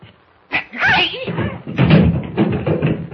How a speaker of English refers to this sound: What happened, Jimmy? I kicked him in the shins.